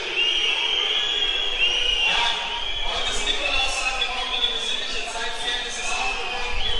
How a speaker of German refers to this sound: Warum jetzt hier gepfiffen wird, weiß ich jetzt momentan nicht.